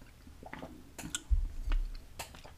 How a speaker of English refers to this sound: Let me just take a sip. Sorry if you're hearing the tea sounds. I take a sip really quick.